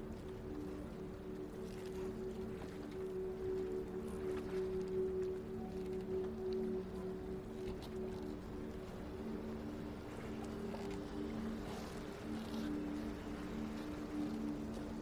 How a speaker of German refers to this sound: Und du schlenderst entlang der Boote. Schau dich einmal um. Da sind große Boote und kleine Boote.